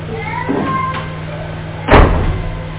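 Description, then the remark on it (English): A door opens with one solid, loud clunk near the end, over a steady low electrical hum and faint room murmur. “Come on now. Open that door.”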